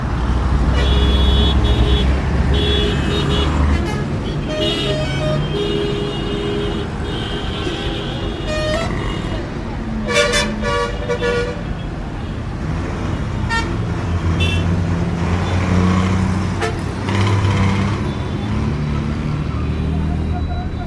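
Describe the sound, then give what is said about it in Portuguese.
Dense street traffic in central Yangon with engines rumbling steadily and car horns tooting repeatedly, some in short bursts, over a constant roar; indistinct voices can be heard in the mix. “O ar-condicionado contrasta com a temperatura lá fora e assim que se abrem as portas, para além de um bafo que se mostra imponente, o caos típico de uma cidade asiática.”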